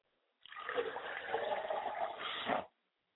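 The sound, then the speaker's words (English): Water poured steadily onto the ground as a ritual libation to the west for about two seconds, a continuous splashing trickle that starts abruptly and stops cleanly, with no voices. “I pour libations to the west, finally, and I say, Ashe.”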